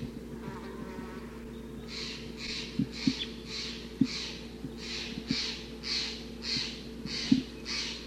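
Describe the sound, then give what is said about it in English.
A wild bird near a mist net gives a steady series of about ten harsh, raspy calls, evenly spaced, over a constant low insect-like drone, with no talking. The flock is perching on the net. “The birds are perching like on the net, difficult to capture.”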